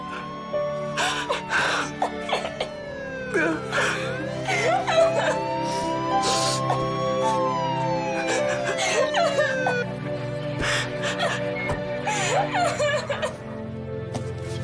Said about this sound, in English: Laura and her daughter weep as they approach Fred and kneel over his body.